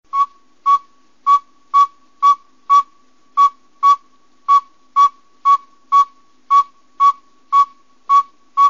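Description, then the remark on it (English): A very small owl gives its distinctive call of steady, repeated single whistled notes at one mid pitch, about two per second, like a reversing vehicle's beeping alarm. No talking. “And I've always called it the backup bird. If you listen to the sound, I'm sure you'll understand why.”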